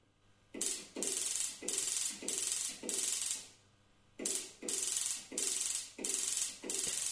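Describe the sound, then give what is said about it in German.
The telegraph key of a replica of Heinrich Hertz's spark experiment clicks in a steady rhythm, each press triggering a short, raspy crackle of a small electric spark that radiates electromagnetic waves: four bursts, a brief pause, then five more. No one speaks. “Was wir gehört haben, ist das Klackern der Taste, ja, mit der sozusagen der Versuch ausgelöst wird, und der kleine Funke”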